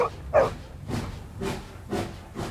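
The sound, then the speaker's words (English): A steam train gives a brief high whistle, then starts to puff away from a station in steady rhythmic chuffs of hissing steam, roughly two per second. No voices. “The train whistles and starts to puff away.”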